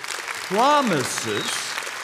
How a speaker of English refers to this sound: You should be clapping louder for that.